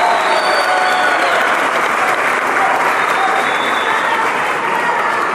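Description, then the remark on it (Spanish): A crowd applauds taxi drivers steadily, a dense, loud wash of clapping that holds at an even level for several seconds without a break, with faint cheering whistles threading through it. “Un aplauso para los taxistas nuestros.”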